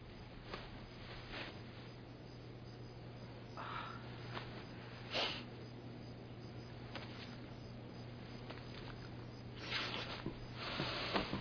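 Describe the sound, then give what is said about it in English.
Someone sniffs women's underwear repeatedly, short breathy inhalations coming at irregular intervals with soft rustling in between, all over a faint steady low hum. No one speaks. “Sniffing chicks' underwear, man.”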